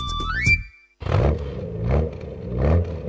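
In a radio advert for Berti car insurance, a short musical jingle cuts off, then a car engine labors loudly, its revs rising and falling in strained, grinding swells as if pulling hard under load.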